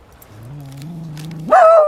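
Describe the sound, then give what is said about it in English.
A person imitates a dog, starting with a low, drawn-out growling tone that suddenly jumps into one loud, high-pitched yelping bark at the end. The voice is alone. “We're becoming like those girls that bark at people.”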